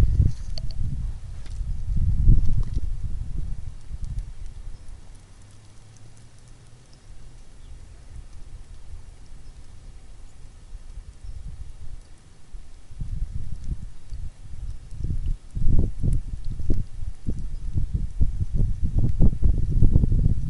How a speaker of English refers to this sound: Yeah, the wind's definitely much stronger now. Let's see if we can pick up some raindrops on the ground. Just the sound of them falling.